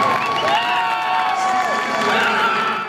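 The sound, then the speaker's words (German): Teams cheer and shout from the stands with no spectators present, a small group of voices cheering steadily for about three seconds, several overlapping calls ringing out in a large, otherwise empty-sounding space. “Der Jubel der Teams von den Rängen, ohne Zuschauer, wirkte er jedenfalls besonders intensiv.”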